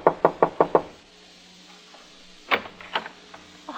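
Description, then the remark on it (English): Five quick, firm knocks on the wooden door of apartment 4C at the Haifa Arms, then a pause with faint room noise, followed by a few more looser raps and shuffling sounds. “I knocked at the door.”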